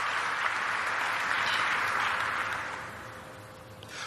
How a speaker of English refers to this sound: Can we give our students and union leaders a round of applause?